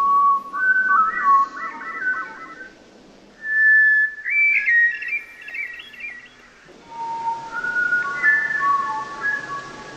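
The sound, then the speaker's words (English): A hermit thrush's spiraling song played slowed down: three long, flute-like phrases of layered, wavering whistles, two flute-like parts at once, one going up and one going down, each rising into a spiraling flourish, with quiet gaps between and a soft hiss beneath. “And if you can play the next track, I slowed it down so you can actually hear the two different flutes at the same time.”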